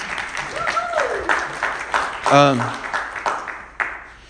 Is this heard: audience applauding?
yes